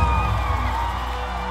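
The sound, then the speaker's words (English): A worship crowd, called on to make some noise for Jesus, cheers and whoops in a steady, loud wash of voices, with scattered high yells rising over the roar for the whole moment. “All the people who know you've been redeemed, make some noise.”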